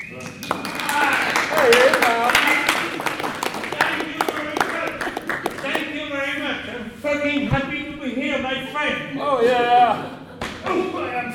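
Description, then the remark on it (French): An audience applauds the introduction of "Monsieur Wall Street", who represents the United States team in a staged show, with dense clapping that stays fairly loud throughout, while voices shout and cheer over it, growing more prominent in the second half. “Mais sans plus attendre, je vous demande d'applaudir celui qui va les représenter.”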